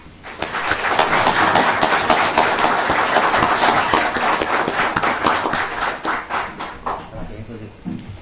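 An audience applauds steadily, a dense wash of many hands clapping that holds strong for several seconds before thinning and tapering off toward the end.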